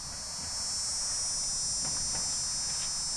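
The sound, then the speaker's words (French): Cicadas sing in a steady, shrill, high-pitched buzz that drones on without a break for the whole stretch, fairly loud, with no voices present. “Le son des cigales, il m'a toujours rappelé l'été, les longues journées chaudes.”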